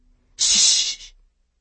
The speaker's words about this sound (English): "Shh!" Ian hissed fiercely, and Hezekiah subsided.